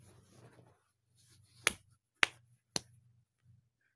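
Three sharp, crisp slaps on a bottom land about half a second apart, each a loud smack over a faint low murmur, with brief quiet between them.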